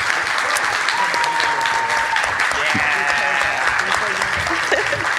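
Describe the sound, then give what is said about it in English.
Sustained audience applause for a panel, a dense steady clatter of many hands clapping at even loudness throughout, with faint cheers and a few voices mixed in. “And how about a round of applause for our esteemed panel?”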